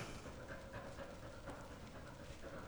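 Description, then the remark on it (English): A puppy adopted from a shelter pants steadily in quick, breathy huffs, fairly soft, with no one talking over it. “And then you end up coming home with a puppy, right?”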